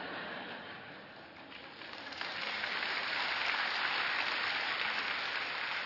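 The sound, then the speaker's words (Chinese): A crowd claps steadily, a dense patter of many hands that swells louder about two seconds in and keeps going without voices over it. “我讲啲咁嘅嘢，你哋唔好拍手咯。”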